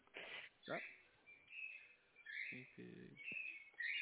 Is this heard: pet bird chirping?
yes